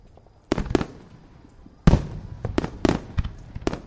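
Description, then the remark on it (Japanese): A rapid series of fireworks bursts crackle and boom, starting with a couple of sharp bangs, then a louder cluster of overlapping explosions with fizzing tails, vivid. “いい花火だったな。”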